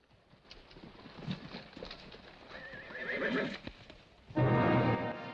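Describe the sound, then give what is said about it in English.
Hooves clip-clop in an uneven rhythm as two riders, each holding a spear, canter their horses to opposite ends of a field, then a horse lets out a loud, high whinny with a wavering pitch, followed by a second, louder and harsher neigh at the end. “They grab a spear each and canter to the opposite ends of the field.”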